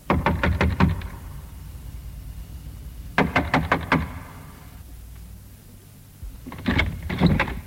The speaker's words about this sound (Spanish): Después se encaminó hasta la casa de los ladrones y llamó a la puerta.